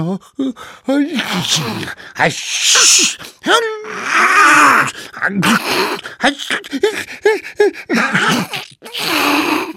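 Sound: repeated sneezing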